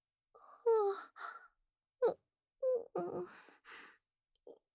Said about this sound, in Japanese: なに？あくび？あくびなんてしてないよ。だって今お仕事中なんだよ。